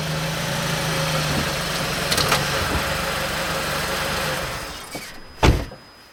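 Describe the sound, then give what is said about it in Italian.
A rental Volvo car's engine idles steadily with a low, constant rumble as it arrives to pick people up on a cold winter day in Sweden while it is still dark outside, then fades down, and a single sharp knock or thump sounds near the end. “Ecco la macchina, sicuramente, è lei.”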